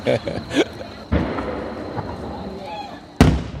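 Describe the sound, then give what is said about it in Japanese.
Fireworks shells at the Katakai fireworks, launched as single shots by Katakai Enka Kogyo, burst with sharp booming cracks, one early and a loud one near the end, with crackling rumble trailing between them and voices murmuring underneath. “これやっぱオリジナリティあふれる、まあ、単発ですけどね、うん、玉は美しいものが上がってますね。”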